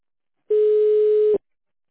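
A single steady telephone line tone sounds on its own for just under a second while dialing an extension on a call to the ASTA association's phone line, a loud, even, mid-pitched hum that starts and stops abruptly, with no voices.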